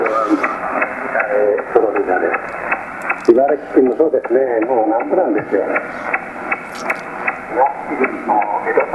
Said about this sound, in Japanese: ウッドペッカーノイズは取れません。